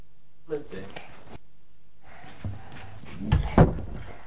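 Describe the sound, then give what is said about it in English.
A door is handled and shut with a loud thud near the end, after a few lighter knocks, while people talk. “Close the door now”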